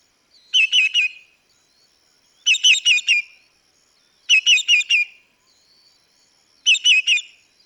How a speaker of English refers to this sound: That sounds like a hungry bird to me, Brenda. You know, the thing about them is if you don't want to get too close to where they're nesting, because they'll scream that for 14 or 15 hours till you leave.